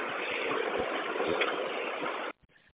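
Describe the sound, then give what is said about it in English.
A bus engine that had trouble starting idles with a steady, broad rumbling drone for a couple of seconds, then cuts off abruptly, leaving brief faint sputters before quiet. “The bus wouldn't start, but it starts, so.”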